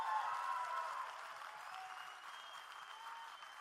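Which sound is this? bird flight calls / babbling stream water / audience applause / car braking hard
audience applause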